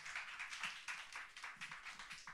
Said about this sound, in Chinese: 那我数到三，我们就一起拍手来欢迎他，1、2、3，拍手欢迎